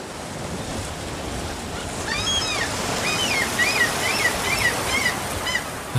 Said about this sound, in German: Meeresrauschen, salzige Luft, eine Brise, das Schreien der Möwen und dann dieser Duft nach Tang. Herrlich.